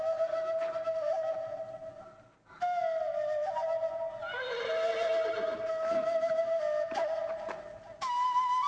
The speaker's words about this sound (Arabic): إنه صوت حصان.